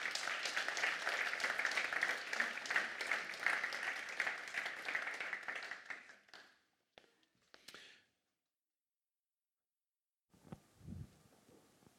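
Audience applause fills the first six seconds as a steady, dense clatter of many hands, then thins to a few last claps and falls silent before a soft low rumble and rustle near the end.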